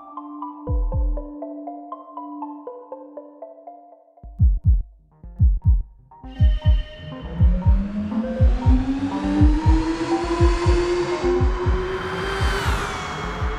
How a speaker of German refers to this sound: Hier rast ein elektrischer Sportwagen über den Nürburgring. Die weltberühmte Rennstrecke in der Eifel hat auf 26 Kilometern Länge insgesamt 87 Kurven, die der Rennwagen mit Leichtigkeit nimmt. Er beschleunigt von 0 auf 100 in gerade mal 2,5 Sekunden.